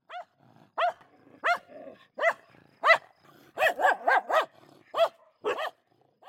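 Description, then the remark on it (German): A diabetes alert dog barks repeatedly, about a dozen sharp, evenly spaced barks that bunch into a quicker burst midway, with nothing else around them and no voices. “Sie erschnüffeln die Unterzuckerung, schlagen an und retten so womöglich Leben”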